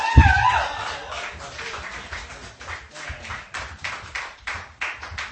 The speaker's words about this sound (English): Everybody, round of applause for Mark Norman. Norman!